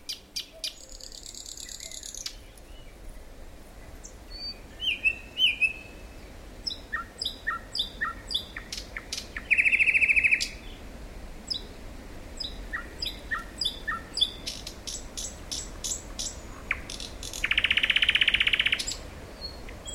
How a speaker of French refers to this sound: Les oiseaux chantent.